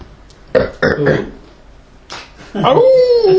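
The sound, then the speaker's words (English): A few rough, guttural grunts, then a drawn-out, wavering howl of pain that rises and slowly falls, loud. It sounds like a voice imitating a monkey's cry. “The monkey howls in pain. In pain!”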